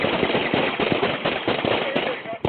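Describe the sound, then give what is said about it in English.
A rapid, sustained volley of loud gunshots fired by a police officer, recorded on dash cam footage, roughly four bangs per second, with raised voices shouting "Shot fired!" mixed in beneath the cracks. “Shot fired! Shot fired!”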